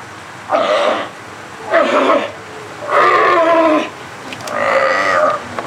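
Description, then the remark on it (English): Sea lions bark loudly in individual chain link pens with small concrete pools at the Marine Mammal Center on a sunny day, four hoarse, drawn-out calls spaced about a second apart over a low background hum. “Seals and sea lions are housed here, one, two, or three at a time, in individual chain link enclosures, each one containing its own small concrete pool.”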